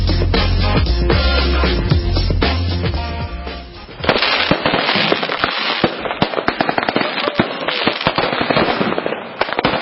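Fireworks going off: a deep, rumbling opening gives way after a few seconds to a loud, dense barrage of rapid crackling and popping bursts that continues to the end, with no voices.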